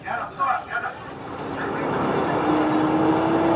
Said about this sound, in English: On a winding village road outside Jenin, an Israeli military jeep drives past waiting Palestinian ambulances.